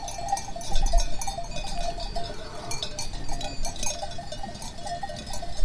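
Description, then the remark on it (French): Dull, hollow clonking of a cowbell with a bone clapper, ringing irregularly and steadily over several seconds, with a continuous low rumble beneath and no voices. “Et les battantes, tu les fais dans de l'os de quoi?”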